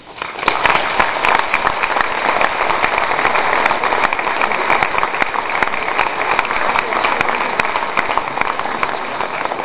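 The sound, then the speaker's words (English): A debate audience claps steadily and loudly for about ten seconds after a speaker's presentation, a dense, continuous patter of many hands with no voices over it. “I want to remind the audience to please refrain from applause until the end of tonight's presentation.”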